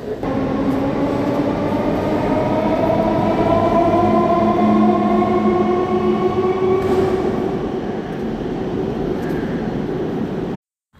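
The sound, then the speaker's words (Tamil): An Indian Railways train runs steadily on its rails, a loud, continuous rumble with a droning whine rising slowly in pitch, heard for about ten seconds before cutting off abruptly. No one speaks. “ஒரு வழியாக பயப்பில் ஒரு 8:30 ஹாஸ்டலில் அண்டு கொண்டு வந்து நிப்பாட்டிட்டாங்க. ட்ரெயின் தாங்க பெஸ்ட்டு.”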